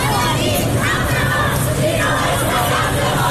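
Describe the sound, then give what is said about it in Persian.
In Bandar Abbas, southern Iran, a crowd of young female voices shouts protest chants together, saying Zhina is their code name, in loud, continuous chanting with rising and falling cries filling the whole stretch against a dense background roar. “همزمان در جنوب ایران، بندرعباس، فریادهای دخترانی که میگویند ژینا نام رمز آنان است.”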